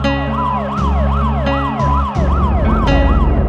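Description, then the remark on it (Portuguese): An ambulance siren wails loud, sweeping rapidly up and down in a steady repeating cycle over a heavy, rumbling vehicle engine, with no one speaking. “Peraí, chama a ambulância.”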